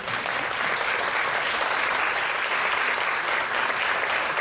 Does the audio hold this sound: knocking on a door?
no